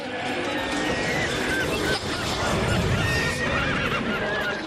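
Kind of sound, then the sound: animal, horse neighing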